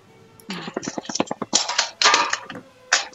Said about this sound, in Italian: Lucchetto che girava.